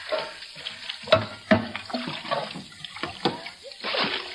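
Water sloshes and splashes in uneven bursts, with several sharper scoops and pours, as a bucket bails water out of a boat holding about a foot of water.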